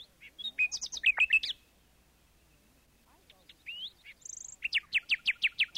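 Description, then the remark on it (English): A nightingale sings: rich varied phrases of whistles and chirps, a brief pause, then a run of loud, rapidly repeated notes. “But Juliet was sure it was a nightingale.”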